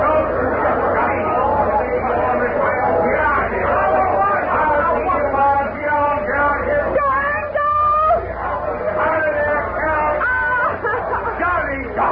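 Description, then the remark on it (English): A steady murmur of many voices talking at once, a dense, overlapping babble of crowd chatter with occasional laughs, holding at an even, fairly loud level throughout. “Come on in this shack here so we can get away from this blasted crowd.”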